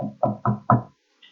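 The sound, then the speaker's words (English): A series of hollow, resonant knocks on a door, three or four in a quick, even rhythm, fairly loud, then a brief faint high tone as the knocking stops. “All of a sudden, a knock on the door.”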